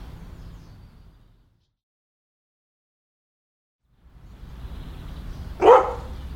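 A dog gives one sharp, fairly loud bark that rises out of a low background rumble, following a stretch of near silence.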